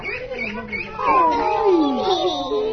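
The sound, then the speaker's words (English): A cat lets out a loud, drawn-out meow with a wavering, falling pitch, following a softer, quieter stretch of sound at the start, during a pet visit with residents of the Petersburg Medical Center's long-term care unit. “A puppy? A kitty. Oh, kitty bag.”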